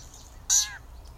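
A single short, nasal meow-like bird call from a yellow-breasted chat, rising then sliding down in a harsh, mewing note that lasts about a third of a second, clear against quiet background hiss.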